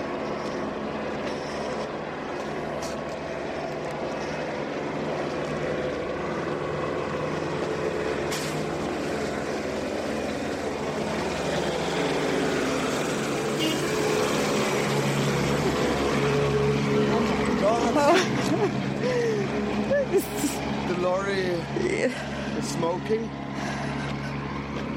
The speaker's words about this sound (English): Oh, yeah. Lorry is coming, though.